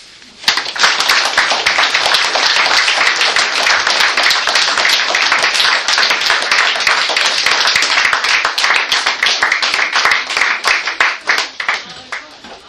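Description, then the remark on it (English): A crowd applauds steadily for about twelve seconds after a poetry reading, many hands clapping in a dense, bright patter that stays loud throughout and tapers off at the end. “and we're also going to clap to acknowledge that she traveled from Toronto today to read all of it.”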